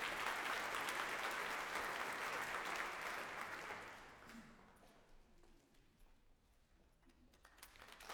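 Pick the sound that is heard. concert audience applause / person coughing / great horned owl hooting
concert audience applause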